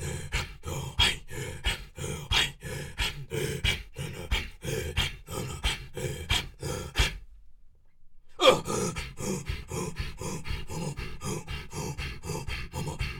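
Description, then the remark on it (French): Quick, rhythmic breaths deliberately pushed in and out audibly, steady and forceful, breaking off for about a second of silence before picking up again at the same pace. “Donc là, je l'exprime, je le prononce, je le rends sonore, mais c'est ce qui se passe à l'intérieur de notre corps.”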